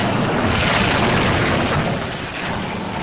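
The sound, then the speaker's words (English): A ship's hull cracking in two: a loud, sustained roar of grinding and rumbling that fills the whole clip, easing slightly toward the end, with no voices. “The ship cracking in two.”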